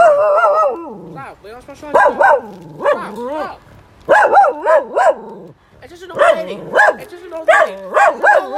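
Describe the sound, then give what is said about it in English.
A dog barks and yips over and over in quick, loud bursts of three or four, each bark sliding sharply in pitch, with brief pauses between the volleys. “Soothing dog noises to relax and study too.”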